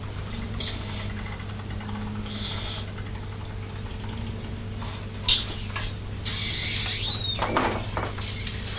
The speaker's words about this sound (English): Are you listening to the sound of the juice in the beaker? It's making a squeaky noise, isn't it? It sounds like there's some air trapped.